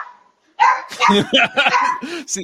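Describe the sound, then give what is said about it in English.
A golden retriever playing fetch with Herb Street in a hotel hallway barks several times in quick, uneven succession, loud, after a brief quiet moment, with what may be voices mixed in. “I don't know if you saw the video of Herb Street playing fetch with the golden retriever in the hotel hallway.”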